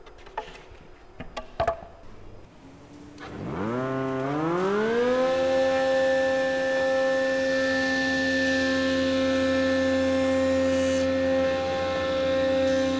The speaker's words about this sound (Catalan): Sí, bueno, tenim aquí l'universal, aquesta, que aquí és una combinada de tres allà per fer forats, per cepillar i per un disco, que és una serra, diguem. Si vols, te pots cepillar un... Vinga, som-hi, sí.